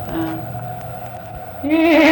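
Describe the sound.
A human voice imitates a horse's nicker: a low, steady hum that breaks into a louder, wavering, fluttering whinny-like tone near the end.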